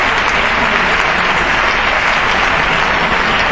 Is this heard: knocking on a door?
no